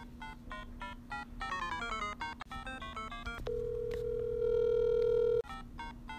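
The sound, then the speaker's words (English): Telephone beeping after a hang-up: a quick run of short electronic beeps with a low hum underneath, then a steady sustained tone that cuts off before a few final beeps. No voices. “Beep, beep, beep, beep, beep, beep, beep, beep, beep, beep, beep.”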